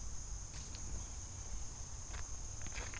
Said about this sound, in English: We got a few hanging out on the logs, a few in the water, and we got a lot of frogs. A lot of frogs.